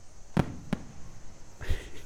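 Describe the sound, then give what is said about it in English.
Fireworks pop three times in an uneven sequence: two sharp cracks in quick succession, then a slightly broader, rumbling burst after a short pause, with no voices. “Oh yeah, the sound is so loud. I couldn't handle, like, the popping.”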